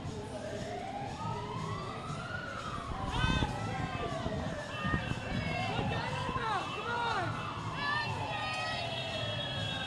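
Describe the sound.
Several emergency sirens wail at once, their rising and falling tones overlapping in the background beneath a noisy anti-GMO protest crowd with voices and general commotion.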